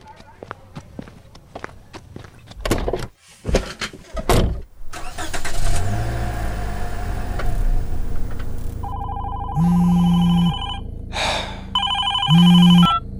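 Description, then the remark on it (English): After thuds, footsteps and a car engine, a telephone rings loudly, two long electronic rings separated by a short pause. “So, who was on the phone?”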